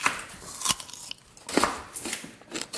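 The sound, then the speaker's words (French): Crisp crunching as someone bites into a raw stalk of Valentine rhubarb, two sharp snaps followed by softer chewing crackles, with no talking. “Est-ce que je peux en goûter un petit morceau cru de cette Valentine ?”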